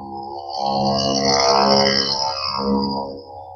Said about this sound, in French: C'est quoi ce bruit ? C'était quoi ? Non, c'était pas ce que vous croyez, c'était une moto mobilette. Qui passait par là.